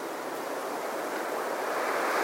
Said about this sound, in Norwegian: Hør på suset fra vinden og vær i kontakt med luftens engel.